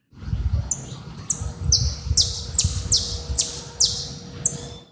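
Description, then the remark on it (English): A saffron finch, recorded in Brazil, calls in a quick series of about eight sharp, high, downslurred chirps, fairly evenly spaced, heard clearly over a low rumbling background with no talking. “Then he sent in a saffron finch.”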